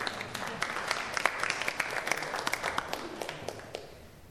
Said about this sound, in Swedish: Oh wow, applåd till honom.